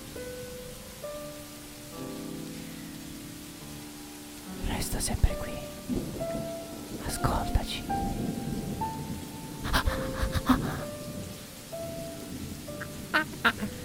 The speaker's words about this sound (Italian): Ogni volta che sento questo rumore di pioggia, un pino cade.